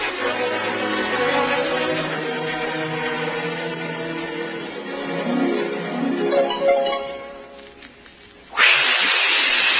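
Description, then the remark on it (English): In a Raleigh 903 cigarette advertisement, a sustained, wavering harmonic whine drifts for several seconds, then cuts to a sudden, loud, steady hissing jet of moisture, standing for the moisturized Raleigh 903, that bursts in near the end and holds at full strength. “That jet of fresh, pure moisture stands for the new, different moisturized Raleigh 903.”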